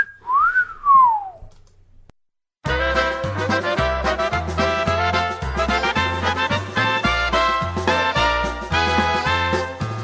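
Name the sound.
whistling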